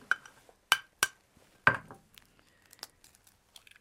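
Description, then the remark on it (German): Sharp taps of an egg against a small pan, then a crisp crack as the egg is cracked into the pan to cook under a lamp, followed by faint light clinks and rustling of kitchen utensils. No talking. “Ich gebe dir mal hier eine kleine Pfanne. Mhm. Magst du einfach das Ei schon mal aufschlagen?”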